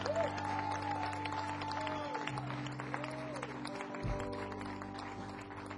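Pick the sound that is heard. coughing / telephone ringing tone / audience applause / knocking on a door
audience applause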